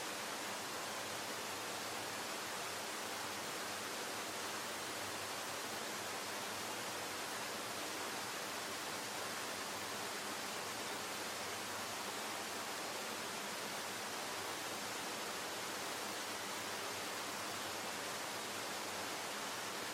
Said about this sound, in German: Und dafür lasse ich jetzt den nächsten Ton ablaufen, diesmal aber einen Ton von so einem Wasserfall, der auf dich einprasselt.